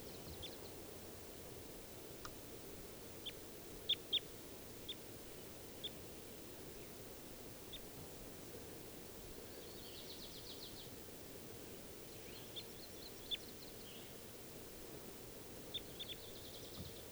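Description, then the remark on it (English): A female bird calls faintly from the top of a tree, giving scattered short chirps and a couple of brief trills, all over a steady rushing background hiss. “And I think one of them's, the one that's calling is not 391, is actually a female.”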